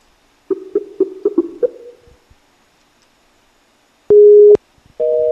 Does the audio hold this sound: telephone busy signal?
yes